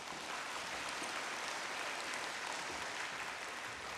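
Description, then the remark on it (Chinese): Steady audience applause at a Christian fellowship gathering, welcoming a young speaker up, fills the whole four seconds, a dense, even wash of many hands clapping with no pauses and no voices. “我们给他掌声他先。”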